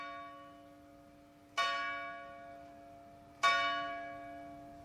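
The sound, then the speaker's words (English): A church bell at Queen's College in Cambridge tolls twice at a slow, steady interval, each strike ringing out loudly with a long, shimmering decay that hums on between strokes; no voices are heard. “We met in the grounds of Queen's College in Cambridge, just as the bell was tolling.”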